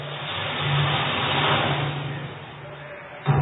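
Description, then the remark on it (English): A car engine revs with a steady low hum that swells to a peak, then eases off, ending with a brief sharp bump. It is loud, with no talking. “Okay, here's your BMW car. Get in.”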